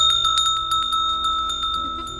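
A single bell, one of several handed out to an audience, rings on its own, struck rapidly over and over so its bright, sustained tone shimmers steadily, slowly fading a little toward the end. No one speaks.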